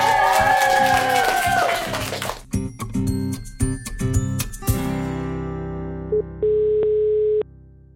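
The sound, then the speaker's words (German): Noisy birthday party chatter gives way to a series of short telephone dialing beeps, then steady electronic phone tones of an unanswered call going to an answering machine, ending in one long sustained tone that cuts off abruptly. “Wir feiern nämlich richtig wild und richtig laut, deswegen hören wir gerade das Telefon nicht.”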